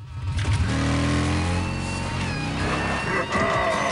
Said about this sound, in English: revs the bike.